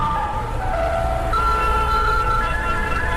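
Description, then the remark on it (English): Busy road traffic where a hawker is selling ice cream amid the vehicles: a steady, loud engine rumble with sustained horn-like tones held over it, shifting to a higher pitch partway through. No one speaks. “A hawker sells ice cream in the midst of traffic, but many motorists”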